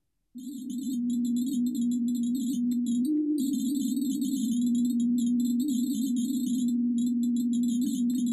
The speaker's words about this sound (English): You're looking at the variability of that heart rate, which is a number or a mathematical function, and turning that into sound. Let's actually hear some of that. This is the heart rate variability of a healthy individual and your sonification of it.